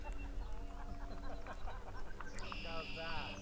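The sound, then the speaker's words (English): A crowd yelling and cheering all around as the total phase of a solar eclipse ends, many overlapping shouts and whoops forming a steady, lively din, with a high, sustained whistle-like tone entering near the end. “You can hear all people yelling all around us and cheering.”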